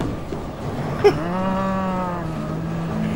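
cows mooing

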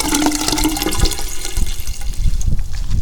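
toilet flushing

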